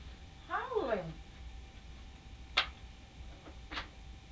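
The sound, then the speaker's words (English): A child shouts once for mummy, a faint, wavering call that slides downward, followed later by two sharp, brief clicks over a low background hum. “No, it ain't, it's a kid.”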